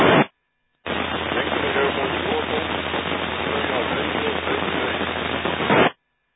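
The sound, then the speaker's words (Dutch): A steady wash of loud radio static fills several seconds after a brief burst and short gap, with a faint, weak transmission from another station barely discernible beneath the hiss before it cuts off abruptly. “In het andere station modulatie, het zit in een ruis en de modulatie is wat zwak.”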